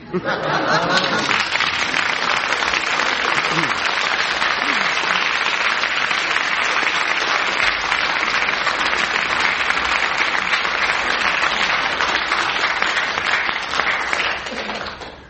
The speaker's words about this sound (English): I think the amount of applause is about the same for both of them, so that's one mark each.